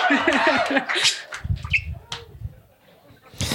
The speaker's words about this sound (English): that bird is a part of this conversation and I would never dream of removing the bird